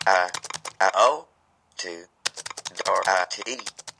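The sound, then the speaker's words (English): Quick clicks of keys being typed on a Braille notetaker, a small computer about the size of a hardcover book with 8 keys and a spacebar, each followed closely by a short synthetic voice speaking the character just typed, in a steady alternating patter with a brief pause midway. “When I type, you will basically hear it speak all the characters that I typed.”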